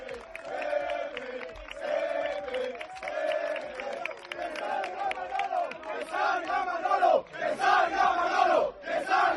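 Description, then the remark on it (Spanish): A large crowd of Málaga football fans chants and shouts in rhythmic bursts, first cheering Pepe Bel, who has just arrived, then turning to loud, angry jeering against sporting director Manolo Gaspar, the roar swelling louder toward the end. “Así estaba la afición, en principio, vitoreando a Pepe Bel, que acaba de llegar, y luego cargando duramente contra el director deportivo, Manolo Gaspar.”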